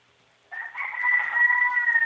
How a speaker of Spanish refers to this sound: Ahí está el gallo. Ahí está el gallo, hola.